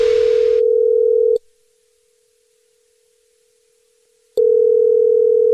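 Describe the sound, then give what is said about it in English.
A telephone ringing tone heard down the line during a phone prank call: a loud, steady electronic hum that plays, cuts out for about three seconds, then starts again. No one speaks. “It's another Jubal phone prank.”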